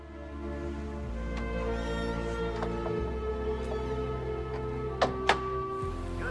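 household object, door closing

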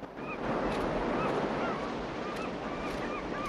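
ambience, sea waves

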